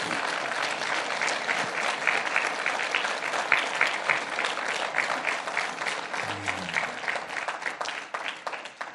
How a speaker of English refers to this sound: These men and women, every Wednesday night, are in that wing of the building, blessing you and your family. Why don't you give them a round of applause right now?